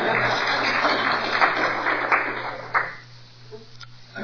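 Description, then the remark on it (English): An audience breaks into a burst of dense applause, many hands clapping at once, holding steady for a few seconds before thinning out and fading to quiet. “If you want to applaud, you can, because that's pretty good.”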